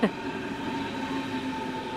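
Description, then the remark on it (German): An S-Bahn commuter train idles at a platform during guide dog training, giving off a steady electric whine and droning hum over broad rumbling noise, fairly loud, after a brief knock at the start. “Heute steht S-Bahn-Fahren auf dem Trainingsplan.”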